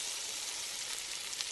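Meat sizzles steadily as it fries in a hot pan, a continuous bright crackling hiss with small pops scattered through it, with no voices.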